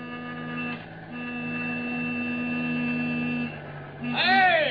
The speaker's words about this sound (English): Wait a minute. Listen. Must be Jackson in his truck.